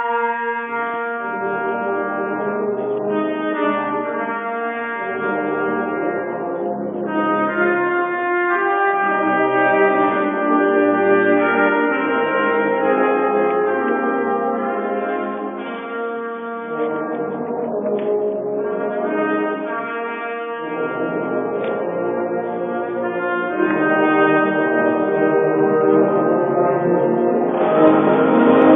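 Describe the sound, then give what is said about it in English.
Bells and woodwinds play a sustained, layered passage of held tones that shift in pitch, steady and fairly loud throughout with no voices. “Bells and woodwinds.”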